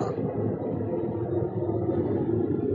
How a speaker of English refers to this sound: Oh. Hold for plane. It's amazing how loud those planes are.